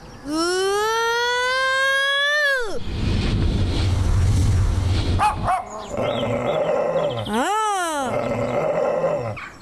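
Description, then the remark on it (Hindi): A dog gives loud, drawn-out cries, rising yowls more than short barks, with a rough, noisy stretch in between before another long, wavering howl-like call. “कुत्ते को नहीं छेड़े, ये आपके पीछे लग जाएगा।”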